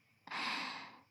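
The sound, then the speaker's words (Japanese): A single airy yawn: a sudden breathy intake that swells for under a second, then slowly fades out. No speech, just the soft, drawn-out rush of breath. “あくび映った？”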